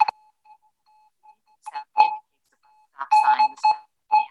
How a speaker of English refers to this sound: Then you can hear this sound, like a sonar. It's kind of detecting something. And when you hear the sound, that means that now the app is working. Indicating the app is searching for bus stop signs.